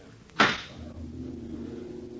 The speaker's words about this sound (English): Listen. The drone of lawmakers before the president of the Senate raps the gavel for silence.